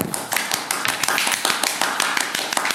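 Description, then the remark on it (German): A few people clap for the winner of a game round in a brisk, slightly uneven patter of sharp hand claps that keeps going steadily for a few seconds at moderate loudness, with no one talking over it. “Applaus.”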